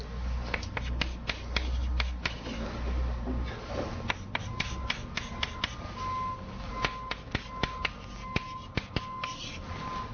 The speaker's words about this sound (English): And, you know, there are lots of points that sit outside this nice Venn diagram here, and let me just write one of them down.